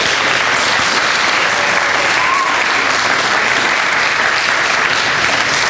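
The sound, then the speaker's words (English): A church audience claps steadily and loudly for several seconds for a family after their child is presented to God, a dense, even wash of many hands with no voices standing out. “Let's give this family a round of applause.”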